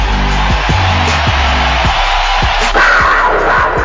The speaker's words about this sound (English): Here will come Blake Bortles. You will hear the crowd. You hear them already. It's a standing ovation, folks. It's a standing ovation. Listen to the crowd. I'll let them tell you.